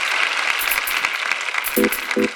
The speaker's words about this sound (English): How about a round of applause for …? Come on.